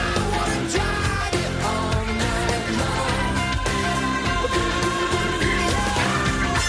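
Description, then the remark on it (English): Loud, dense rock music plays steadily with driving drums and distorted guitars, and a male singer's scream sits faintly in the background of the mix. “That scream he does in the background is awesome.”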